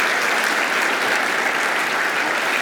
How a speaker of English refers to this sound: Okay, let's give our kids a round of applause.